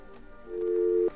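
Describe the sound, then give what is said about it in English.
A telephone dial tone sounds as one steady electronic hum for about half a second, then cuts off abruptly. It is moderately loud, with no talking. “Now, we're going to take our little pulsating dial tone here.”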